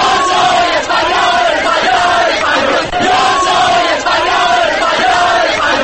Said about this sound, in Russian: Уже ближе к утру подвыпившая толпа в центре города стала распевать патриотическую песню, но почему-то на мотив «Калинки-малинки».